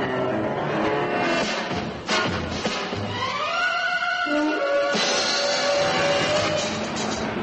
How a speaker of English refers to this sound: Car coming out of the gate, Sergeant. Yeah, in a devil of a hurry, too.